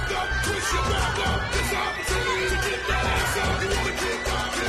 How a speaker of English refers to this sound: He meanders through a colossal crowd of partygoers.